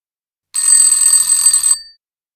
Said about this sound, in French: 6h du matin. Le réveil vient de sonner.